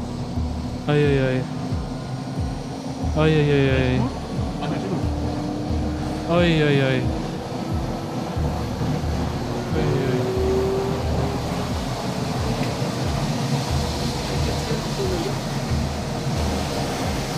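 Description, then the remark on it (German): A loud, steady airplane engine drone fills the cabin as the plane gets going, a broad rumbling hum with a low tone slowly creeping up in pitch, while a voice speaks briefly a few times over it; some wind comes through the hatch they will exit at 4000 metres. “Das Flugzeug ist an. Ich glaube, jetzt geht's los.”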